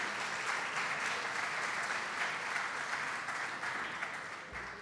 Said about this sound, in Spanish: Sí, damos un aplauso.